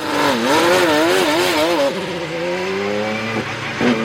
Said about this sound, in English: Here's what IndyCar sounds like.